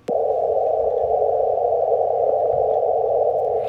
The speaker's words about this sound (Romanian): Astăzi au anunțat dovezile, recent au anunțat dovezile și anume că undele gravitaționale există cu adevărat. O să încercăm să ascultăm cum sună aceste unde gravitaționale.